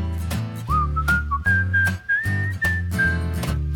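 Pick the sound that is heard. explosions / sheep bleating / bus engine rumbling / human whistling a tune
human whistling a tune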